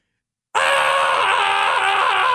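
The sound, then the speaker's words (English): A woman lets out a sudden, sustained scream of pain as a pin pierces through her throat; it starts abruptly after a brief silence and holds loud and strained for about two seconds, unbroken. “You watch it go in, then you're watching it from the inside go all the way through as she's screaming, come out the other side”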